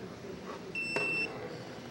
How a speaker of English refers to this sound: So, makes that beep, which means I'll have to do this real quick.